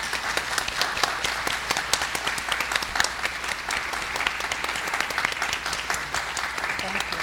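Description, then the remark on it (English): Steady applause from a crowd for the leaders of a prayer group, many hands clapping in a dense, even patter that holds at a moderate level for several seconds without a break. “And would you give them applause for their faithful leadership of this prayer group for so long?”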